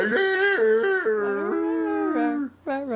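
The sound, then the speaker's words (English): A person does a loud, drawn-out dog howl impression as Walter the dog, the wavering voice sliding up and down for a couple of seconds, breaking off briefly, then rising into another howl. “He was Walter the dog.”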